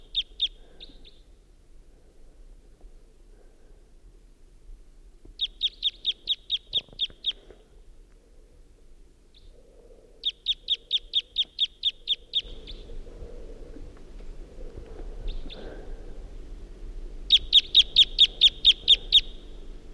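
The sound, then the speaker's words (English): A wild bird giving type 2 calls and song at 5:50 a.m. sings in short, rapid trilled bursts of high, buzzy notes, repeated every few seconds, clear, over a faint low rumble that grows louder toward the end. “and there's a wild bird around who is giving type 2 calls and song.”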